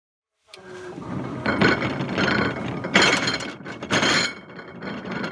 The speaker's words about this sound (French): Un chariot. Ouais. Il y avait toute la vaisselle du midi, donc les assiettes, les couverts, les verres et les plateaux de manger, mais qui étaient vides. Je sais pas, j'aime bien le bruit. Des couverts qui se frappent?